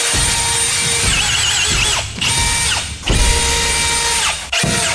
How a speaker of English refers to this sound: I got a drill from my workshop.